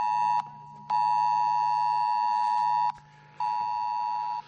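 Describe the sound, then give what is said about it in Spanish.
A mobile phone emergency alert sounds across the province of Valencia at 8:11: a loud, harsh, steady electronic tone in three bursts of varying length separated by brief gaps, with a low hum underneath and no talking. “En unos minutos, a las 8 y 11, pero de hace 180 días, sonaron los móviles en la provincia de Valencia.”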